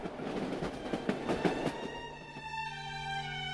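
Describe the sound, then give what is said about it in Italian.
A passenger train with sleeping cars, travelling from New York to Kingston, Canada, runs along the rails with a rhythmic clickety-clack of wheels over track joints, then a steady, sustained tonal whine takes over near the end. Moderately loud, no talking. “In seguito, recuperati i bagagli e dopo un breve giro per New York, i tre si sistemarono in un vagone letto, su un treno che li avrebbe portati fino a Kingston, in Canada.”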